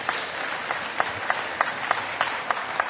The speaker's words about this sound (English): It was incredible. I think, now that's where I want you to clap. That's where I want you to clap.